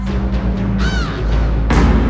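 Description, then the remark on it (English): A raven gives a loud, harsh caw, followed moments later by a rougher, noisier croak, both heard over a steady low rumble with no one talking. “I can hear it cry.”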